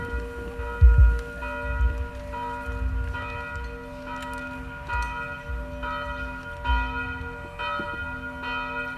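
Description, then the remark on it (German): Church bells ring out in a steady, overlapping peal, their resonant tones sustaining and layering over one another, fairly loud and reverberant with a low rumble underneath and no voices. “So wie die Glocken läuten und die Schallwellen jetzt über die Lande streichen, so läute in deinem Herzen die Gnade Gottes eine neue Zeit ein.”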